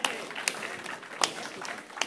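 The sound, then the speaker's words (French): An audience in Catus applauds the team in charge of developing the public spaces and the crossing of the town centre, a steady dense wash of many hands clapping with a few sharper, louder claps standing out now and then. No one speaks. “On peut les applaudir.”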